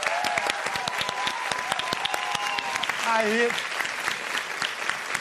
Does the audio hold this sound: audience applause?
yes